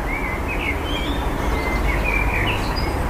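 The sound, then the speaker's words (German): Blackbird song echoing through a valley near Davos, Switzerland, a few scattered whistled phrases, rising through a constant low rumble that sounds like a passing train or traffic, giving the scene a wide, open feel. “Lange bevor der Verkehrslärm einsetzt, hallt der Gesang der Amseln durch das Tal.”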